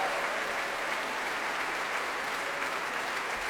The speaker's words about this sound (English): We're just bringing David Chatwin, principal bassoon, to his feet. Before that, we had Andrew Budden, principal horn, receiving applause as well. Timpan is getting a big cheer. That was Paul Turner. And the entire brass section now on their feet.